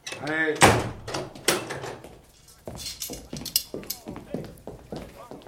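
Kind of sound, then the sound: household object, door being shut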